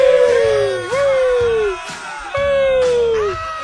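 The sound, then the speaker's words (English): A bar crowd at Grant Bar in Millville yells and cheers when asked to yell into a microphone: two long, loud whooping shouts that slide downward in pitch, with a busy layer of other voices whooping and hollering underneath. “We went down to Grant Bar in Millville and just brought a microphone and said, yell!”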